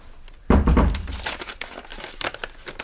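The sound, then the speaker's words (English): A soft thump is followed by a stretch of dry paper crinkling and rustling, with irregular crisp crackles as a folded note, put through the letterbox, is opened out. “There's a note come.”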